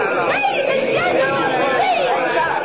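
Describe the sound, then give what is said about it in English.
A dense crowd gathered by a ticket booth chatters all at once, many overlapping voices forming a steady, loud babble with no single speaker standing out, as a woman climbs onto the booth to address it. “She's going to address the crowd.”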